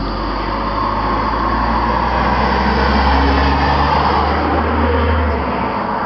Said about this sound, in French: Alors, pour ceux qui se demanderaient comment ça se fait qu'il y ait autant de voitures, c'est parce que j'ai une malédiction. À chaque fois que je démarre un micro, il y a des voitures qui passent.